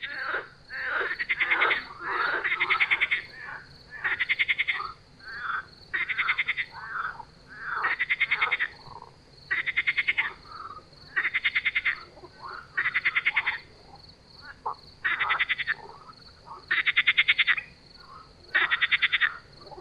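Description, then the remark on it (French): Marsh frogs croak loudly at night at a pond in Beaumont, in repeated rattling bursts, about one every two seconds, with brief pauses between calls and a faint low background hum; no one speaks. “Exercice nocturne à l'étang de Beaumont sur les grenouilles rieuses.”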